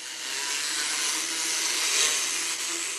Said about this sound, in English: He needs his teeth filed. She's got her electric drill.